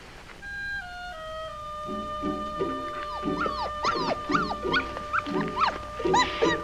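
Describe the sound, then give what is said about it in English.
A puppy whimpers and whines in a run of high, wavering cries, starting with drawn-out howl-like tones and breaking into quicker yips. It is fairly loud, with no one talking. “Papa says that means he's a good dog.”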